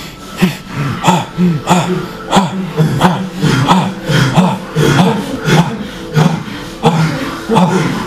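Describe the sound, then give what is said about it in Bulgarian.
Rapid, forceful belly breathing in the kapalabhati style, called fire breathing, done as a guided exercise: sharp, breathy exhalations pulse in a steady rhythm, about two or three per second, continuing for several seconds without any talking. “Коремно, огнено, бързо дишане. Капала бати.”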